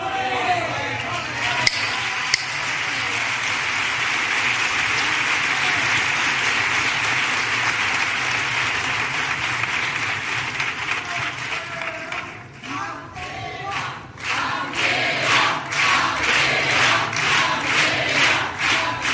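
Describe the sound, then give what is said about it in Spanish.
Sustained loud applause from a large theatre audience, a dense wash of clapping that continues for the whole stretch, with scattered louder claps and some cheering near the end. “Gracias a cada aplauso de este teatro, podéis estar tranquilos que hay cuarteto para el rato.”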